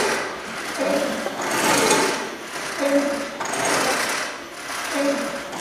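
A hand-operated fire pump, shown as an exhibit, worked by hand in steady strokes, about three in a few seconds, each with a rising mechanical creak and a broad rushing, sloshing hiss that swells and fades in rhythm.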